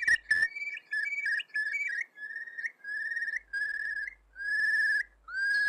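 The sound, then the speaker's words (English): A curlew calling: a run of clear, fluting whistled notes repeated in quick bursts, growing into longer sustained whistles, with a final upward-sliding note. No voices are heard. “This remarkable sound is actually what gave the bird its name. It was variously described as Corlee or Curlee, and eventually evolved in speech to become Curlew.”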